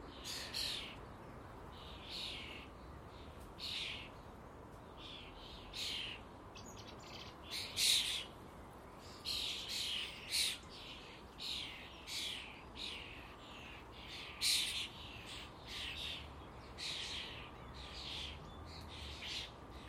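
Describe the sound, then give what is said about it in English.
Starlings call again and again in harsh, scratchy bursts, a busy chatter of overlapping squawks and chirps that carries on for the whole stretch over a soft, steady background hiss. “Now, some people, I think the starlings are just a boring wee bird, but they're not.”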